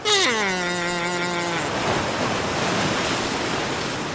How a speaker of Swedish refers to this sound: Surfare. De surfar på vågorna.